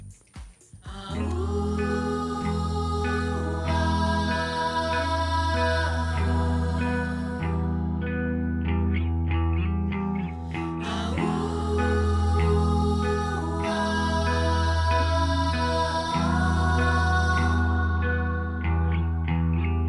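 A full-band rock song plays loud and steady, its guitars thick with chorus and distortion effects over a solid low end, with brief dips in the texture around the middle.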